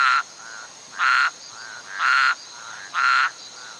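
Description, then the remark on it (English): A toad croaks in a steady rhythm, with four loud, buzzy calls about a second apart and softer croaks between them, clear with no voices. “It was said that a legendary toad called Quatam lived deep in the Ecuadorian rainforest.”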